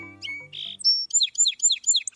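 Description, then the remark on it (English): A bird sings a bright, clear song: a few opening notes, then a rapid series of five or six repeated chirping phrases in steady rhythm, fairly loud with no voices. “Many bird species have a distinctive song.”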